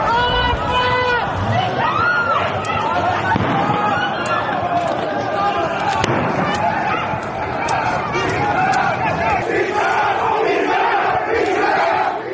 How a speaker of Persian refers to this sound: این تصاویر نشان می‌دهد معترضان شعارهای علیه آیت الله علی خامنه‌ای سر می‌دهند